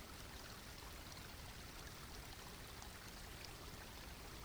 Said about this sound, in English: Now look down at your feet, at the edge of the water, and step forward into the stream so that the water is running across the tops of your feet and around your ankles. Feel the coolness and the movement of the water.